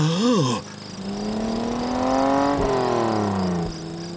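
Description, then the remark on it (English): A tractor engine with a cutting blade revs loudly, its droning pitch climbing steadily as the accelerator is pressed and it accelerates, then dipping briefly near the end, with no voices over it. “Press down on the accelerator.”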